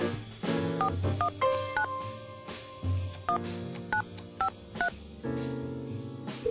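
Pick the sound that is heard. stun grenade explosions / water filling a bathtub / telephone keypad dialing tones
telephone keypad dialing tones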